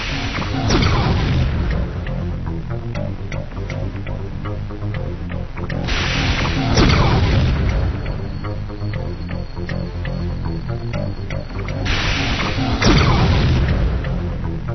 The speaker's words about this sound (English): Whoa, he nearly landed on the ground that time. I guess the louder the explosion, the closer he was to landing.